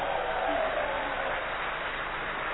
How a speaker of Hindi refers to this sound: तो एक बार मैं फिर से आप सभी को कहूंगी कि हम क्या करेंगे, ऐसी तालियों की गड़गड़ाहट करेंगे कि पूरा ज्ञान सरोवर आज गूंज उठे, जोर से तालियां बजाएंगे।